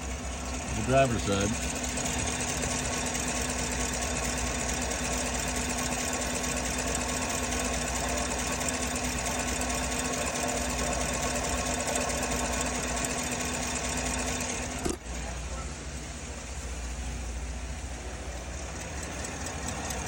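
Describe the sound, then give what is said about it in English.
An idling engine, suspected of an exhaust leak, runs steadily with a fast, even ticking riding on its hum, more noticeable on the passenger side; a constant mechanical rattle continues unbroken, with a brief thump near the end. “Sounds like exhaust kick, but I don't see any broken bolts or cracks, possible leaks.”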